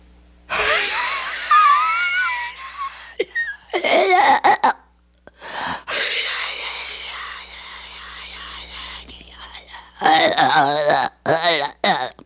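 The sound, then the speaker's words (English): A voice imitates the devil's breathing described in Blatty's book, close to the microphone. The harsh, rasping demonic breathing has long strained wheezing inhales and exhales with gurgling, gagging textures, broken by short gasps and pauses. It is loud and alone, without speech. “But Blatty says in the book it had an unearthly sound, the devil's breathing, that could be heard through the open door.”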